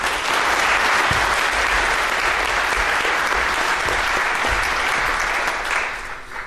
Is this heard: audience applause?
yes